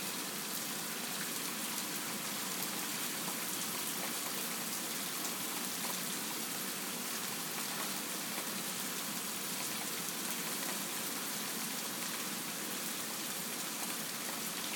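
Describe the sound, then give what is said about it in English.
Heavy rain pours down steadily, a dense, even hiss of countless drops striking surfaces with a constant fine patter throughout, no voices present; the rain is still heavy but slowing up a little. “Anyway, it seems to be slowing up a little bit now. It's still quite heavy though.”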